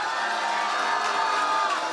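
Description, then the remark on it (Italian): A loud, steady wash of audience applause and cheering for the show's hosts, measured on an applause meter, dense clapping with whoops and voices blending into a continuous roar that holds constant for the full two seconds. “Applauso, wow, ai conduttori.”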